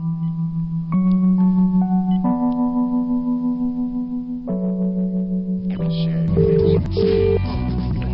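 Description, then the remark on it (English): A steady telephone dial tone hums, then shifts through a series of pitched tones as a number is dialed again after the phone stopped working, ending with short beeping key tones. Loud, with no talking. “Hang on, let's try it again. Dial tone.”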